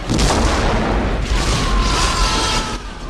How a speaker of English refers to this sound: Explosions rip the bridge apart, flinging the unsuspecting Klingons through the air over the consoles. The conical bridge section at the center of the saucer is engulfed in a massive fireball.